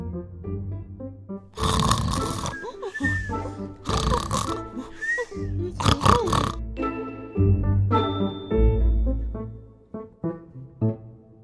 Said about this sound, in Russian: Только из-под ковра доносился громкий храп.